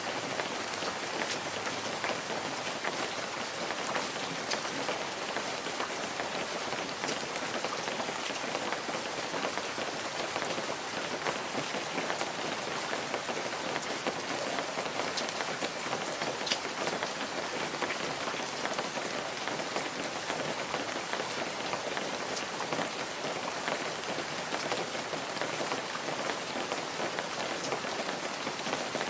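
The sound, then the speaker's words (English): Heavy rain pours down without pause for about thirty seconds, a dense, even hiss with scattered drop patter and no thunder or voices. “One stormy night,”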